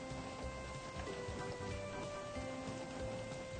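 Steady, soft rain hiss fills the whole stretch, a dense even patter with no breaks, joined by a faint low hum in the background and no voices.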